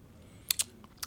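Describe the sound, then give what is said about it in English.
A quick sip of whiskey followed by a few sharp, wet lip smacks: two clicks in fast succession, a short pause, then another pair, with no talking. “I'm going to take a sip of this real quick.”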